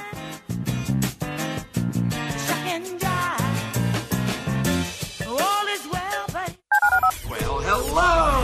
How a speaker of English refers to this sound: Dial the phone.